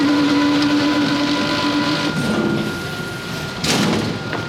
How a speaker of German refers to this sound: Also die Bleche knallen da aufeinander, da steht eine riesige Brötchenmaschine, die haut 9000 Teiglinge in der Stunde raus.